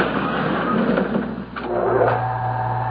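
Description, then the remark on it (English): A voice-activated elevator door in a department store rumbles and scrapes as it slides closed, with a couple of soft clunks near the end and a steady low motor hum settling in. No one speaks. “Watch the door.”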